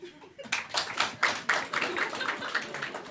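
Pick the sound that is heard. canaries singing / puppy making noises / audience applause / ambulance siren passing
audience applause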